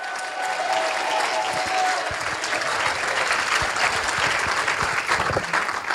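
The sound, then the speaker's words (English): An audience bursts into loud, sustained clapping mixed with cheers and shouts to praise the Lord, a dense continuous wash of applause lasting several seconds with no pause. “Let's give the Lord a great big shout and a clap.”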